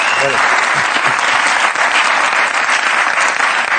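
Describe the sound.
Steady, loud applause from an audience, a dense wash of many hands clapping continuously for several seconds, with a brief voice audible at the very start.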